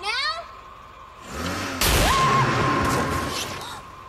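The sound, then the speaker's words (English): A sudden sharp electrical zap from car jump leads being attached to a car in a garage bursts out with a harsh crackle, the shock sending a person flying back, then settles into a steady buzzing hum before cutting off. A brief vocal sound comes just before. “The shock sends him flying back.”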